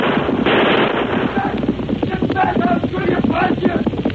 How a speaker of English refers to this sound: The polecat's shooting at us.